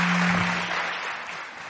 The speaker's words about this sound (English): Give your pastor a big, big round of applause this morning. Amen.